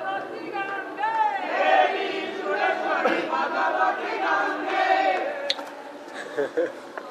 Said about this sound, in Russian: Вот сейчас вот начинают петь, сейчас толпа соберется там.